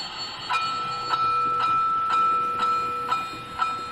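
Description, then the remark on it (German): A model railway train runs steadily round its track, a thin electric motor whine underneath a regular clicking of rail joints about twice a second, without any voices. “Ja, und das, ab und zu gehe ich mal bei, schalte das Ding mal ein, dann läuft das mal 5, 6, 7, 8 Runden und dann mache ich es wieder aus.”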